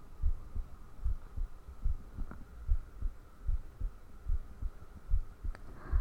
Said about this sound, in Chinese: 能听见我心跳吗？